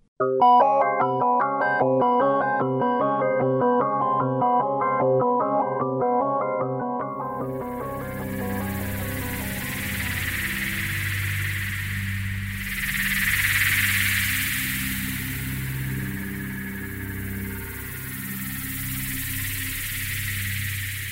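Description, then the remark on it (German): Synthesizer effects from a Cobalt 8 synthesizer, made without a noise generator: a rapid, bright arpeggiated sequence of tonal notes gives way around seven seconds to a swelling, whooshing noise-like texture over low droning tones, the two patches blended together afterwards and crossfading smoothly. “Zum Abschluss noch einige FX-Spielereien. Auch ohne Noise-Generator bekommt der Cobalt 8 da Hörenswertes hin.”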